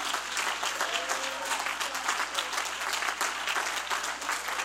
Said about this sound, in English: Hallelujah, hallelujah. Amen. Let's clap our hands and give God praise.